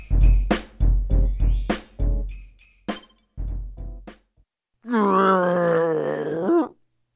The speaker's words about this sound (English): He hears Mr. Lion crying far away.